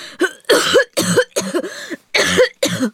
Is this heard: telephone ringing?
no